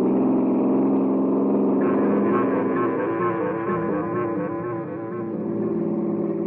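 car engine accelerating

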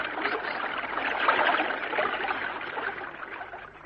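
creek water flowing

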